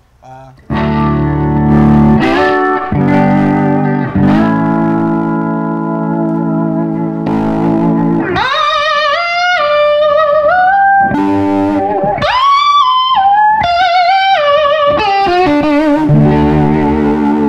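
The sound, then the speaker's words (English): An electric guitar plays loudly through a Randolph PV model amplifier with its boost engaged by a tap switch, giving a boosted, gritty tone: sustained ringing chords first, then brighter bending lead notes that cut through sharply. “You just tap, you know, you got your boost here.”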